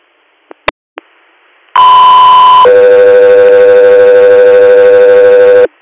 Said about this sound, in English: Echo 3 Air, stand by for tones.